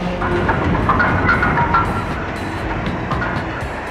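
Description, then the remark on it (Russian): A diesel locomotive engine roars at high revs, a loud, steady, rumbling drone with a dense mechanical rattle and faint metallic clatter running through it, no voices. “Бешено вращавшийся дизель остановился.”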